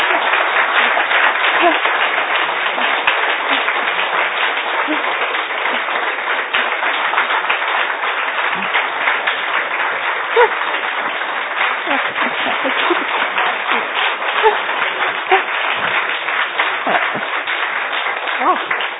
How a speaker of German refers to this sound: So einen langen Applaus gibt es selten hier. Danke.